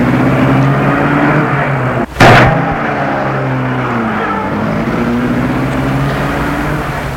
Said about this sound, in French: met sa voiture en route